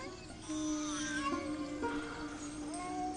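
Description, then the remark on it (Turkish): A baby cries in drawn-out, wavering wails with a thin, high, slightly nasal tone, continuing steadily and fairly loud for a few seconds with no talking. “Niyə kisin ağlayır?”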